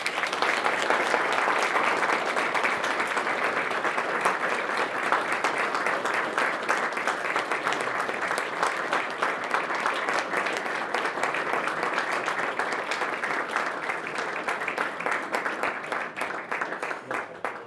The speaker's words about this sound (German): Ich glaube, das könnt ihr jetzt mal mit einem kräftigen Applaus.